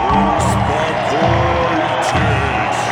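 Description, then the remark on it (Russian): Steady, booming drumbeats from stadium fans thump about twice a second beneath a dense, continuous roar of the crowd, the rhythm repeating evenly throughout, as fans on all the stands perform a synchronized dance after a fight. “А сейчас я слышу какой-то странный барабанный ритм.”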